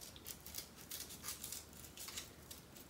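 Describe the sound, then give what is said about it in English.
Scissors make two simple cuts along drawn lines through a thick stack of paper to cut out a heart, a steady series of crisp, rasping cuts, fairly quiet, with a sharper snap at the very end. No one speaks. “And I'm just going to cut along these lines.”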